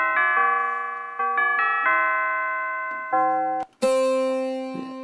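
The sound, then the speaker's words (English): A synthesized General MIDI chimes patch plays a slow descending run of struck tubular-chime notes. Each note rings on with a long metallic sustain, then a brighter, louder strike comes near the end. No voices. “Chimes.”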